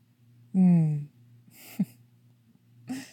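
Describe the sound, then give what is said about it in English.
Heavy breathing: a loud voiced sigh falling in pitch, followed by two harsh, breathy rushes of air with short pauses between them. “You're breathing so heavily.”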